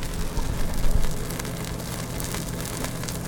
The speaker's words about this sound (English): And some everclear. Whoppa! And it's sizzling. I can just see that. I love it.